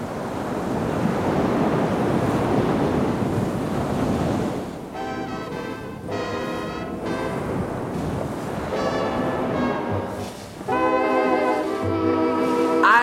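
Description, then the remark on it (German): Ocean surf roars steadily with a loud, windy rush. About halfway through, bursts of tonal, harmonic sound rise over the continuing noise of the waves. “Verdammtes Meer.”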